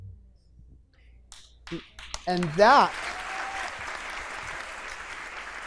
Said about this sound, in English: And that is the moment when we all applaud.